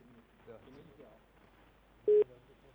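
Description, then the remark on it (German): A single short, loud electronic telephone signal tone beeps near the end of Radio Helsinki's phone call to the ESC media art lab in Graz, following a stretch of faint, muffled voices in the background. “Ein Telefonsignal war zu hören.”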